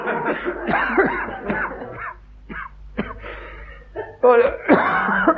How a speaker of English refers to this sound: Excuse me. I'm so sorry. I'll say that's a nasty cough you've got there, isn't it, Doctor?